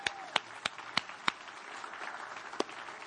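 A church audience applauds as a clap offering to the Lord during a morning service, a steady wash of many hands clapping with a few sharp claps standing out in a loose rhythm near the start.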